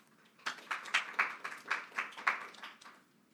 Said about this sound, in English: Please give Judge Singh a round of applause.